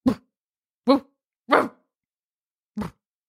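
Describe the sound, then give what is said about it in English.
A person imitates a drowsy, relaxed dog with four short, soft woofs, spaced unevenly over a few seconds, with silence between each. “Woofing, woofy, woof. I only know how to do relaxed dog, which Chewy?”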